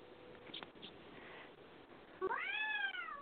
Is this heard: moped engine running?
no